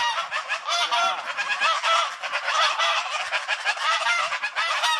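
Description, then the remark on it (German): A flock of geese honks continuously and loudly, many overlapping nasal calls blending into a dense, raucous chorus with no pauses, with no talking. “Gänsewahns. Gänse.”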